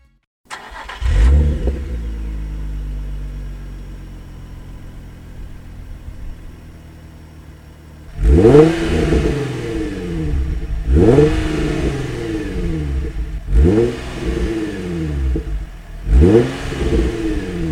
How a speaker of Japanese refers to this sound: フェアレディ ZUAZ33、 マフラーはバーテックスチタン GD748。